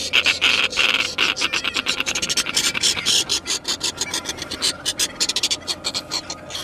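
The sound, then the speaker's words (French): A pair of birds, a female and a male, call back and forth in harsh, raspy bursts. The female's voice is noticeably higher-pitched and the male answers her. Both are unbanded, non-breeding, likely young birds establishing a nest. The rapid rhythmic calls run continuously with no talking. “Voilà la femelle, vous entendez ? La femelle est nettement plus aiguë. Et son mâle lui répond.”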